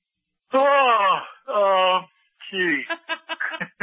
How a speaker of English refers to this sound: No, I'm just kidding about the yawn there.